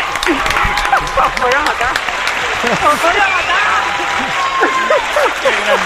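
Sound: applause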